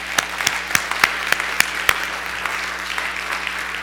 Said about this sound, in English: We also welcome those that are streaming with us for the first time today. May we applaud our first-time guest.